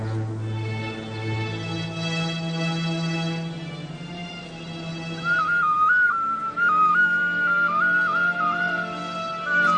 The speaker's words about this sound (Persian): سوت سوتکش رو از جیبش در میاره و شروع میکنه بزنه.